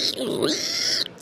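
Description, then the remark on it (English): A person makes a short nasal, snorting pig imitation lasting about a second, fairly loud, with a raspy inhaled quality, while being taught how to make a creature sound. “You can think of it sort of as like making a pig sound, like a...”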